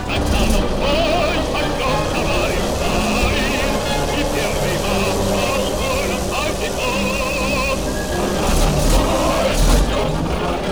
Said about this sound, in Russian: Наши танки, товарищ полковник. Где вы видите наши? СС Панцердивизион Das Reich.